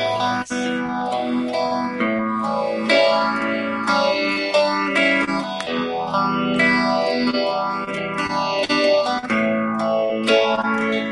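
Sustained electric guitar chords, E minor and A, swirl through a Univibe phaser pedal, the tone sweeping up and down in slow, regular waves. Loud, with a slightly overdriven edge and no voices.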